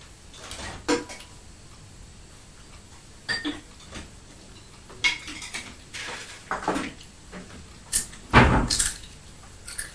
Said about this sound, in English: You sound like you're chomping on some crunchy biscuits, crispy biscuits. On those crisps. Your cheese biscuits. Cheesy biscuits.